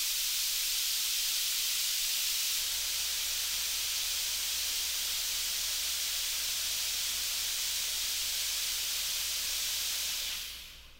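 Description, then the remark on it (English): A steady, loud hiss of nozzles spraying a saltwater solution to make fog in the Sandia National Labs fog chamber, 180 feet long, 10 feet wide and 10 feet tall, broad and continuous for about ten seconds with a faint low hum beneath, then tapering off at the end. “Here in the fog facility, we make fog by spraying a saltwater solution through spraying nozzles.”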